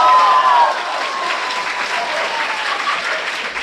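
An audience at a crosstalk (xiangsheng) performance of "Selling Axes" by He Yunwei and Yu Qian claps in a dense, steady ovation that holds at an even, loud level for the whole stretch, with a thin high tone ringing briefly over the clapping near the start.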